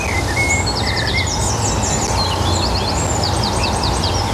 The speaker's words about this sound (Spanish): Da gusto, ¿verdad? Este sonido, los pajaritos que están cantando, este paisaje completamente verde, este frescor también se nota, ¿eh? Que estamos entre los árboles con el calor que estamos teniendo estos días.